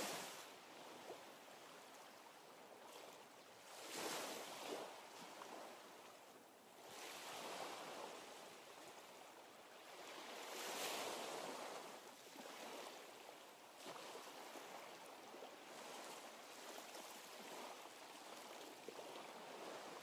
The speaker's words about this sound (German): Ihr achtet auf die Bewegung der Wellen, hört dem Rauschen der Brandung zu. Und die Wahrnehmung der brechenden Wellen ist wie ein Tor zu einem tiefer und tiefer werdenden Eintauchen mit der Erfahrung vom Entspannen.